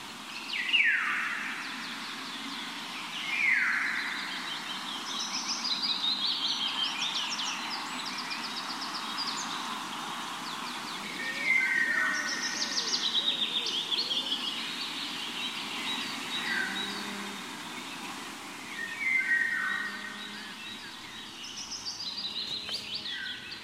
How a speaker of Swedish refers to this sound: sommargylling. Mm. Häftigt. Vilken fågel.